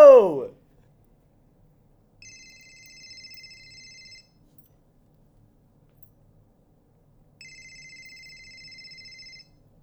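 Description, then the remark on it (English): A telephone rings twice on an outgoing call placed to a number meant to reach Santa Claus at Christmas time, each steady two-second electronic ring with stacked high tones separated by a few seconds of silence, after a brief opening burst of voice. “So we gotta figure out my bro Santa's phone number. We're gonna try 1-800-BRO!”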